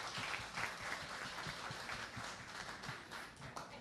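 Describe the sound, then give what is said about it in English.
A crowd applauds steadily to thank the Monarch for providing the venue and snacks, many hands clapping at once in a dense, crackling wash of sound that stays at an even, moderate level throughout without any voices. “First and foremost, a big round of applause to the Monarch for providing us the venue as well as the snacks.”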